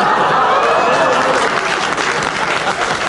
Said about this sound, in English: You won't tell them why till they've stopped applauding.